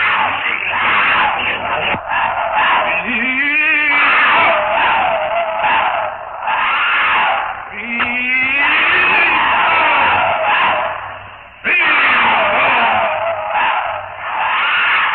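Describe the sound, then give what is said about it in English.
The leopard Sheeta howls and screams in a savage fight as Tarzan stabs it with a knife, harsh snarling roars running continuously while several loud, wavering wails rise and fall over about fifteen seconds. “Sheeta howls in agony as the red-hot stabbing pain shoots into his body.”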